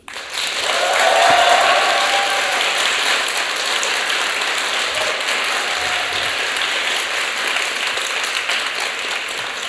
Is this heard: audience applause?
yes